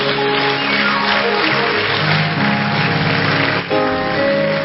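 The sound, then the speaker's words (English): A church audience claps their hands for Jesus after a prayer, in a dense, sustained wash of applause lasting several seconds, with steady musical tones running underneath and a brief dip near the end. “Clap for Jesus.”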